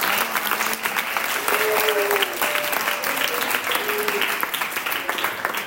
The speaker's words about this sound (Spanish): Muy bien. Un aplauso.